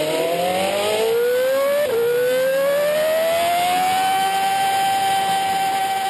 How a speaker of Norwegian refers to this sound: Som et eksempel på det skal vi nå få høre hvordan det er å kjøre Formel 1-bil.